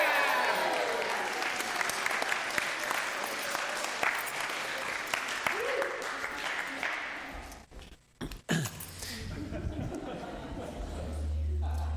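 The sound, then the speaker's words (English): A large crowd breaks into sustained applause and cheering, dense clapping for several seconds before fading briefly, then a voice resumes speaking over lingering low murmurs; the crowd is cheering news that the speaker has the keys to a new house. “Just one piece of family news, which you can cheer at.”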